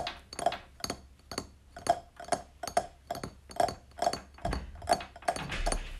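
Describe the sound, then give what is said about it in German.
A steady run of light fingertip taps on a plate and a glassy mirror, about two or three per second, each a short bright click with a faint ringing tone, alone without talk, made as a sound effect for rain pattering on a roof. “Dazu klopfe ich mit meinen Fingerspitzen auf einen Teller und auf einen Spiegel.”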